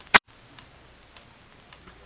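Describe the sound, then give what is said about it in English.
One sharp, loud click, then faint, steady ticking of a time bomb, roughly two ticks per second, quiet and even with no one speaking. “Listen to that ticking.”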